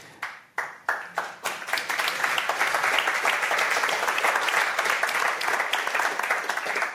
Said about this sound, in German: Ein netter Applaus. Wir sind hier im Radiocafé in Wien.